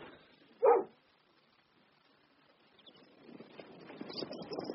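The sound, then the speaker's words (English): A dog gives one short, sharp bark, then goes quiet while a low, rustling background murmur slowly builds. “Sorry, I must take the dog for a walk.”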